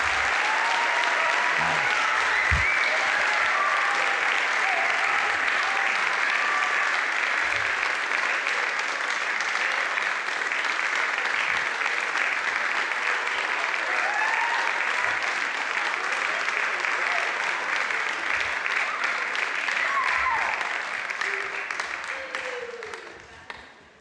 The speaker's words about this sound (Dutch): Een groot applaus voor deze twee kanjers.